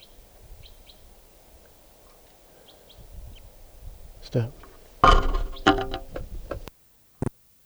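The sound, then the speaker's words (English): Faint, high calls from a wild bird foraging up in a larch repeat in short chirps over a low background hum, then louder clattering and rustling noises take over in the last few seconds. “Still up in a larch now, foraging.”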